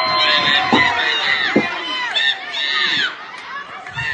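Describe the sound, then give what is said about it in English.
A large crowd cheers and shouts steadily for several seconds, many overlapping voices rising and falling in pitch, with a few dull thumps underneath and no break in the noise. “Listen to the crowd.”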